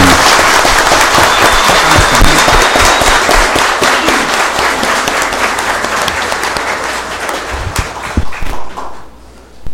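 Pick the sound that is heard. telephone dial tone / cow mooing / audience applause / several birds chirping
audience applause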